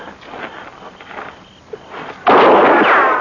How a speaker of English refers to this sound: That's mighty poor shooting, Braden. You must be awful scared.